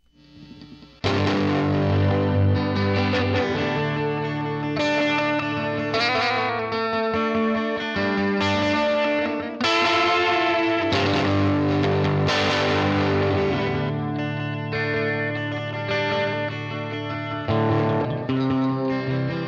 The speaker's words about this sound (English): I'll play some guitar. It's just some sort of ethereal, echoey, country-ish, three-chord progression. Dig it.